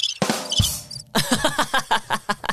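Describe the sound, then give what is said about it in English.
A loud burst of shrill, high chirping is followed by a steady run of rapid, evenly spaced cricket chirps, clear with no voices. “The crickets agree.”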